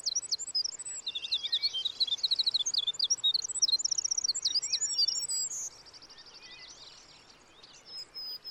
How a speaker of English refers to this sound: this is just a tiny little bird, you know, just a few inches long. And when you're in a valley or a ravine and this bird starts to sing, it fills the whole valley with its song. And it's just musical and beautiful, and it just takes your breath away.